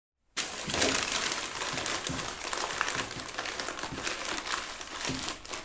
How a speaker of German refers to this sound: Drück mal das Papier in deiner Kiste mit deinen Händen runter.